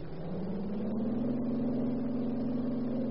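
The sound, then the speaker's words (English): A car engine drones steadily and climbs in pitch as the vehicle accelerates away, then holds a constant hum; no one speaks over it. “Get in the car.”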